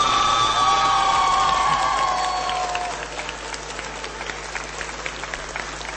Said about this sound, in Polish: A my oczywiście gorąco i serdecznie dziękujemy księdzu biskupowi Antoniemu Długoszowi, naszemu wielkiemu przyjacielowi. Brawa dla księdza biskupa Antoniego.